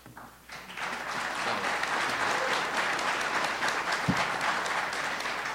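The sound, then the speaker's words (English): A crowd applauds steadily at a political candidates' debate, a dense wash of many hands clapping that swells after a brief quieter start and holds at an even, loud level throughout, with no voices standing out. “I want to remind the audience to hold your applause until afterwards so we can get through the questions, as many questions as possible.”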